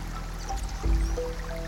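Gentle babbling of a stream, a soft continuous trickle and burble of flowing water with a faint low rumble underneath, steady and moderately quiet, with no voices.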